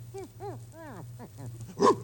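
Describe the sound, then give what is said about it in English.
A dog with a keg of brandy around its neck whines in a string of rising-and-falling whimpers, then lets out a louder, sharper yelp at the end, over a steady low hum. “Oh, it's only a dog.”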